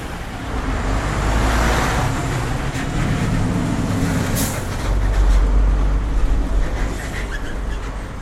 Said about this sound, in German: Und die Autos...